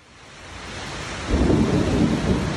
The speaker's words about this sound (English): That's what we get after 93 degrees. Después de 93 grados hoy. Another 5 o'clock summer storm is ripping through the east side of Orlando.